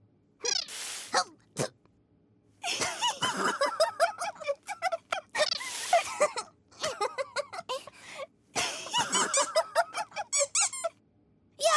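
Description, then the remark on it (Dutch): A rubber bath duck, a gift for the toy bear Beer Baks, squeaks over and over, loud, in quick clusters of shrill, wheezy honks separated by brief pauses. “We hebben een badeend. It says squeak!”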